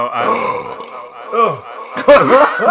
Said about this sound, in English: I felt it. I had to burp.